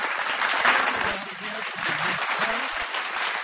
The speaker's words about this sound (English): I want to talk about the applause before we take off. The best quality fake applause on radio.